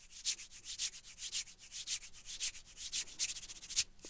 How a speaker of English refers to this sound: But moving on down, in terms of the hands, you get some kind of brushing sounds.